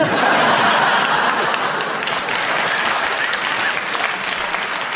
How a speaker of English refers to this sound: All right, Clement, the audience clapped, they enjoyed it, so we give you a bonus point because we enjoyed what you said.